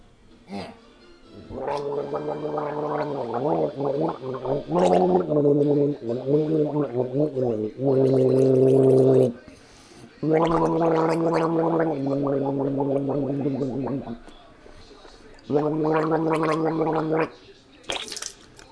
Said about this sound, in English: And so after trying everything, still having a cough, and still hurting the swallow kind of thing, I'm finally resorting to gargling with salt water. So here I go. Ready? Just a little.